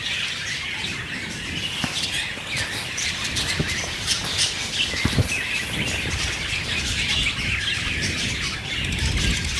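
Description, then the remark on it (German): A dense, continuous chorus of many birds in a cage chirping, tweeting and squawking at once in the evening, busy and fairly loud throughout, with occasional sharper calls standing out and no voices. “Ja, als wäre das hier vielleicht ein Vogelkäfig oder so.”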